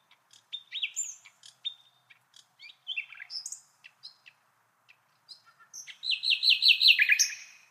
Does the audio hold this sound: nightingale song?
yes